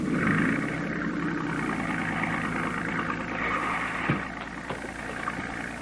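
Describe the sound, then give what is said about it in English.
A boat's engine idles steadily in place with a low rumble and a broad mechanical hum, with a couple of faint clunks near the end, as passengers climb off the boat up a ladder. “Sorry I can't help you up, but I can't leave this boat.”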